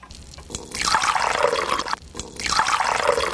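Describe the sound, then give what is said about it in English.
Drinks are poured into a glass for a toast twice in a row, each pour a steady splashing gurgle lasting over a second, with a brief pause between them and no voices. “Let's drink to that.”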